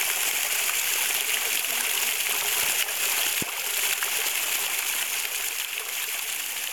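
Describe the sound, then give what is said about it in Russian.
A strong, steady rush of water gushing up out of a well, loud, pouring continuously for the whole stretch with a brief splashy thump partway through and no voices. “Не успели крестьяне это сделать, как вдруг в колодце что-то забурлило, зашумело и наружу хлынула вода.”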